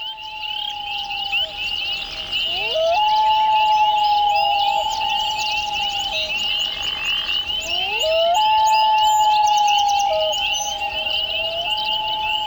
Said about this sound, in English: Boy, those loons sound ethereal. It's one of the most haunting sounds on the planet. And when you hear these loons, the common loons and the Arctic loons, it just brings tears to your eyes.